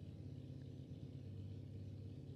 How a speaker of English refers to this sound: Is it the motorcycle? Is that a motorcycle? Girl, gotta be. Or is that this truck right here? That's what I'm saying. I think it's the truck, but... Okay, can he, like, stop it, though?